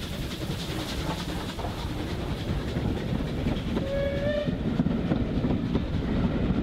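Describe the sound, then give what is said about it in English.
A steam train rolls along the rails with a steady, loud rumble and rattle throughout, and a short whistle rises briefly partway through before the heavy clatter carries on. “In the 50s, it became an iconic train, bringing holiday passengers from northern cities through beautiful Dorset scenery to the Bournemouth seaside.”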